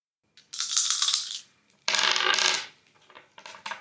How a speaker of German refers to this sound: Mach mal eine 3W20-Probe. Ich darf mal würfeln.